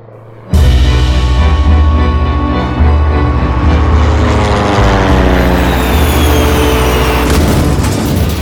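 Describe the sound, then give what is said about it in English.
A sudden, loud roar bursts in after a brief quiet and holds steady, a plane's engines straining as it takes off and then crashes into a field, with whining tones that shift in pitch throughout. “Witnesses say they saw the plane take off and then crash into a nearby field.”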